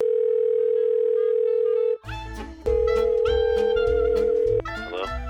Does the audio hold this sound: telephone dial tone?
yes